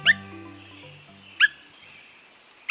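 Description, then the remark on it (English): Three short, clear whit calls of a Swainson's thrush, evenly spaced about a second apart, with a soft low musical tone fading out beneath the first call. “When Swainson's thrushes first returned to nest in the woods of the West, or the northern states in Canada, they announced their presence with subtle calls.”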